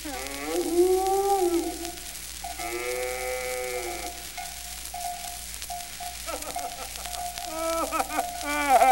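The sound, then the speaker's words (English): A runaway cow named Dookie moos several times: long, drawn-out, wavering calls, loud, with short pauses between them and no one talking. “What's that? Ah, sure, it's Paddy Flynn, and with him, Dookie the cow.”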